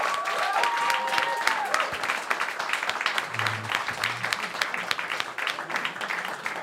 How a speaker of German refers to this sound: bitte einen riesengroßen Applaus